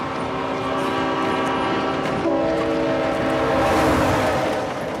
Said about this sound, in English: To get that last little piece with the train coming past McNulty, Dominic actually had to stand on the tracks. I was a little worried we were going to lose our lead actor in the pilot. It wasn't that close, but the train's a big thing